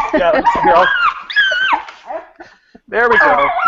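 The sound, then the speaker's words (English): A young female puppy, being brought back in from a walk, yips and whimpers excitedly in a string of high, wavering barks, pausing briefly before another eager burst. “There's my puppy about to come in.”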